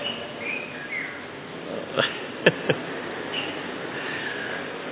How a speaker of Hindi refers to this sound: देखो बाबा के दिनों में भी बुलबुल आके चीटी करती थी, आज भी कर रही है। क्या बोलती है सुना आपने? शिव बाबा शिव बाबा।